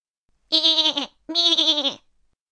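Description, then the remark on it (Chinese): Two loud goat bleats from a thin goat in quick succession, each a wavering, nasal cry lasting about half a second, separated by a brief pause with no talking. “瘦瘦的山羊也要和松丽一起玩，松丽说：“ 现在不可以。”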